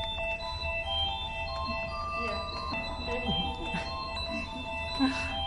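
The song plays as a steady, repeating keyboard melody of sustained bright tones, held over a continuous low rumble at moderate volume.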